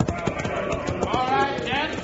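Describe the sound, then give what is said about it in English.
The hooves of two horses, Buckshot and Joker, clip-clop in an uneven rhythm that slows and peters out as they are reined in at the edge of a crowd, with a murmur of voices and crowd noise rising underneath as they come to a stop. “Just pull up to the edge of the crowd and listen, partner.”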